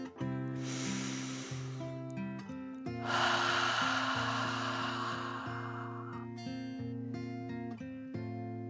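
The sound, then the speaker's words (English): A slow, deep 'dragon breath' in and out: a breathy inhale of about a second, a pause, then a longer, louder hissing exhale of roughly three seconds, over gentle, steady background music. “Then they both relaxed as they took one more deep dragon breath in and out.”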